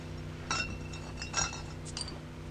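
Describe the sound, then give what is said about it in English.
Glass beer bottles clink together as one is grabbed and pulled free, a few bright, ringing taps in quick succession over a low steady hum, with no talking. “Can you grab me a beer? Yeah, those right next to you.”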